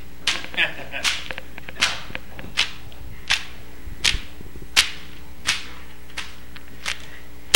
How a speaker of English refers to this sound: And now he's doing a double flogging. With these big, heavy whips. Floggers.